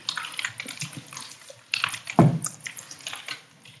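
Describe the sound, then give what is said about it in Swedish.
Water runs from a tap during an emergency (SOS) call, a steady wash of splashing with a brief louder gush and a low knock partway through; no one speaks. “Man hör vattnet på ett ställe.”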